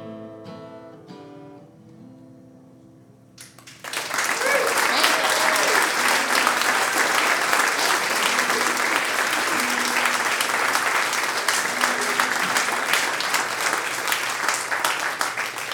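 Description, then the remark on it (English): After a few seconds of fading musical tones, loud sustained applause erupts from a large audience, steady and enthusiastic, continuing for over ten seconds with occasional faint voices mixed in. “must have warned y'all pretty good about making sure you clap real good and all.”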